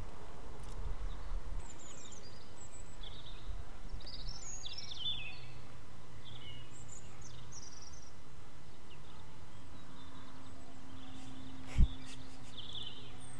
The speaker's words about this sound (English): Shush and listen to these lovely birds who are singing especially for us. Can we stop for a second? We're right by this bird.